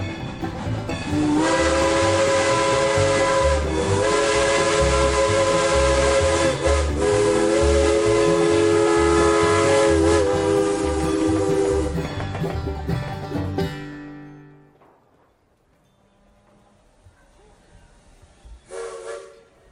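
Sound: train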